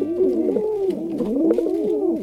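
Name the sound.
pigeon cooing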